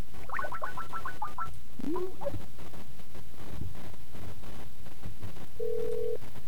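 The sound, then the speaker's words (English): A quick run of short electronic dialing beeps on a phone call, then a few seconds of quiet line noise before a steady ringback tone sounds once near the end. Clear, with no talking. “So let us call our number.”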